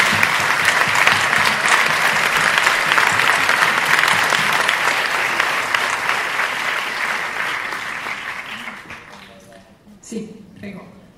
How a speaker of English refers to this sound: I just want you guys to give a round of applause to my producers, Nate Moore and Victoria Hanson.